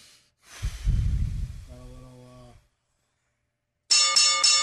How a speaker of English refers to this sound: Ring, ding, dong. There's the bell.